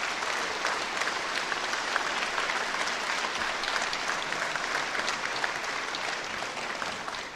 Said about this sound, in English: I would like to just take a moment to ask our newly elected members of the House and the Senate to please stand. Let's give our new members a great round of applause, congratulating them on their elections to this great body.